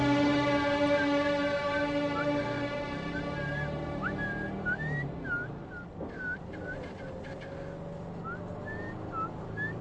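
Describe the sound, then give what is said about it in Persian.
A person whistles a string of short, chirping notes that rise and fall, repeating over a steady, droning background hum. “یه مرد باس سوت زدن بلد باشه کلن به دردش میخوره.”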